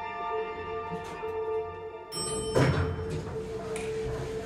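Elevator doors slide open partway through, marked by a shift in tone and a brief rumbling clunk over a steady mechanical hum that continues in the background.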